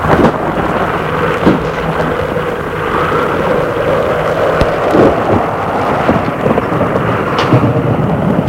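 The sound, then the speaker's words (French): A thunderstorm with steady, dense rainfall and deep rumbling thunder rolling throughout, punctuated by a few sharper cracks. No voices, just the continuous roar of the storm. “Le bruit de l'orage a dû cacher le bruit du drame.”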